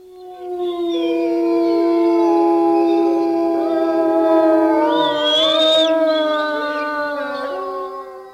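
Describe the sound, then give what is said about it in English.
Several gray wolves howl together in long, overlapping, sliding tones that rise and waver, forming a sustained, loud chorus lasting the whole stretch, with no talking. “Gray wolves are amazing creatures. They're the largest wild canines in North America, standing about 2.5 feet tall, with some weighing more than 100 pounds.”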